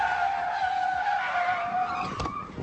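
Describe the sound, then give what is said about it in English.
Car tires squeal in a long, loud, high-pitched skid that holds steady for about two seconds, then breaks off with a short rough scrape as the car stops. “Man, what the hell are you stopping the car here for, man?”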